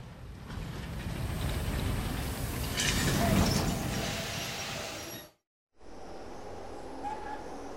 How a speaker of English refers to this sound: The train arrived in Daejeon just past midnight.